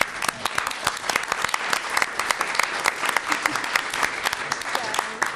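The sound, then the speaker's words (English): A room full of people applauding committee staff for their work, dense overlapping claps sustained steadily for several seconds, with no talking over it. “Let us thank the staff for all of their work.”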